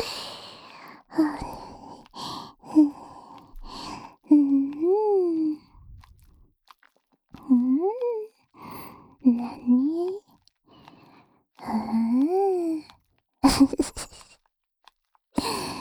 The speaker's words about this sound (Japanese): はぁはぁ言ってるね。